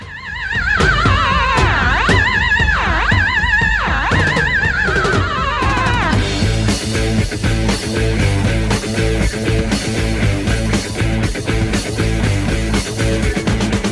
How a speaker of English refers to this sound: I just discovered the song. Dan wants to hear it. It's a song called …. And it goes like this.